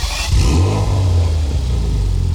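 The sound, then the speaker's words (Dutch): A Porsche Macan S engine revs hard through its exhaust, a loud roar with a deep throbbing rumble that rises then holds steady for a couple of seconds, no voices. “Dan is het misschien tijd dat u naar de nieuwe Porsche Macan S luistert.”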